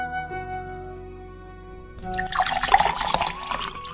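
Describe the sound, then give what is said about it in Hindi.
After two seconds of a steady tonal hum, cold water splashes as it is poured into a glass, a bubbling pour lasting about two seconds with a rising pitch as it fills. “माँ पहले एक गिलास ठंडा पानी पिलाओ, बहुत प्यास लगी है।”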